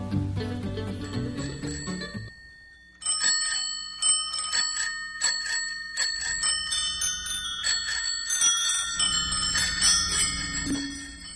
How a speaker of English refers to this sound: Those aren't Christmas bells. Those are bicycle bells.